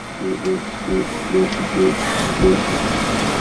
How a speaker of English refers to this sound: In a Santa Cruz garage, a homemade 3D printer lays a clear plastic filament down, row by row. Over time, a surfboard takes shape.